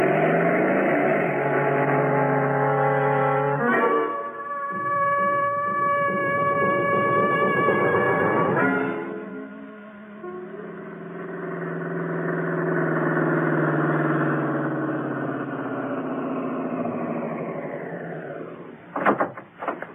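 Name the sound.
motorcycle engine driving off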